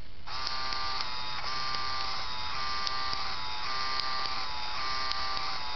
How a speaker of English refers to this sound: Cool Easter egg with the Game Boy printer, actually. You could print a test print whenever you want. Hold down the feed button and turn the power on.